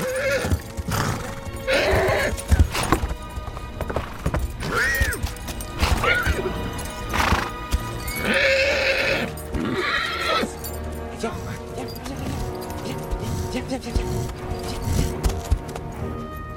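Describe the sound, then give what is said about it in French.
A horse whinnies loudly several times amid a steady clatter of hooves, with men's voices talking over the busy commotion, as a soldier is ordered to harness the horse. “Soldat, vous ferez ce que l'on vous dit. Attelez ce cheval !”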